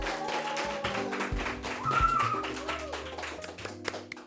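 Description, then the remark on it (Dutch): Steady audience applause for three school pupils joining a panel table as experts, many overlapping claps, fairly loud throughout, over a faint low background hum and a brief tonal whine in the middle. “Geef deze leerlingen een heel groot applaus.”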